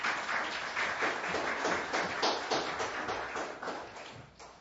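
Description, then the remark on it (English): An audience applauds children after their song, with steady, dense clapping of many hands that holds an even level for several seconds before thinning slightly at the end. No one speaks over it. “Can we get another round of applause for the children?”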